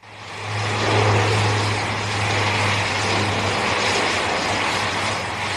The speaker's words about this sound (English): An American C-130 transport plane lands on the 3.5-kilometre-long runway into a strong northerly wind and taxis to a halt.